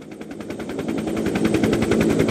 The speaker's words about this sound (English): We take off from America's main research base in Antarctica, and the helicopter takes only 20 minutes to get to Cape Royds.